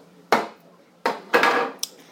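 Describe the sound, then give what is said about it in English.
A phone being set down on top of a microwave: a few sharp clunks and knocks against a hard surface, one with a brief rattling tail, then a small final tap. “Oh, I'm going to put it up on the microwave.”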